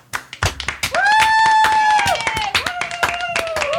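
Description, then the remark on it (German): A short burst of applause of thanks for a stand-in presenter: sharp, uneven handclaps from several people, with a long, high whoop or whistle rising above the clapping midway through. “du kriegst jetzt auch einen Applaus von uns allen.”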